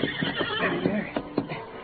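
horse neighing

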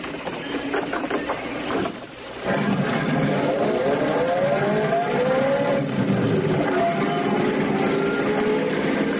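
car engine driving

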